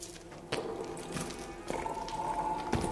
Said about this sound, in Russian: Проход суживался. Над нами в большой железной трубе журчала вода.